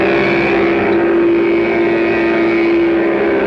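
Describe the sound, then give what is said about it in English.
A Mattel Varum hot rudder toy engine, fitted to a child's bike or trike and started with a key, drones loudly and steadily, a buzzy motor hum that holds one pitch for several seconds with only slight wavering, and no voices. “Start it like Dad's key starts his car. The remote control is up here where it belongs. Sounds like a real engine.”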